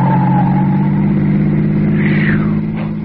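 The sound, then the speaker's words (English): A car engine roars loudly and steadily for about three seconds, a deep droning rumble with a revving whine rising over it, as the car speeds at a man on foot, nearly running him down. No voices. “Why, it looked as if that car was deliberately trying to run you down.”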